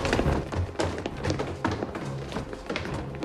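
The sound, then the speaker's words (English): Police smash open a door inside a building amid a dense, noisy din, with several heavy thuds and cracking impacts over a few seconds. “They smash open a door.”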